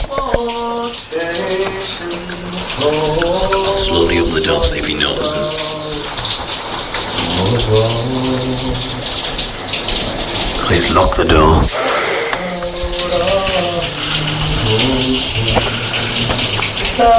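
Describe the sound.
A shower runs steadily the whole time, a loud, even hiss of spraying water, while a man sings over it and another voice speaks quietly at moments.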